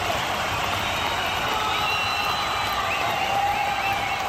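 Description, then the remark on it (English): A huge crowd of about 50,000 fans roars and screams without pause, a dense wall of cheering with shrill whistles and high yells rising out of the steady din. “There are 50,000 screaming fans here. I said somebody scream!”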